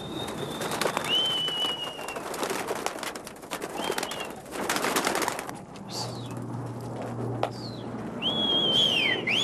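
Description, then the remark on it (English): Domestic flying pigeons of the tippler kind coo on a rooftop in Manhattan, New York City, amid thin, high whistling bird calls and bursts of fluttering, rushing noise, with a low steady hum underneath. No one speaks. “This is my pride and joy, flying pigeons on 130 Fish Street.”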